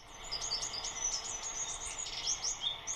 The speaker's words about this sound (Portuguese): Estamos a ouvir, através do som do telemóvel, o cantar da ferfolha, uma ave dos Açores que faz parte desta edição de selos dos CTT.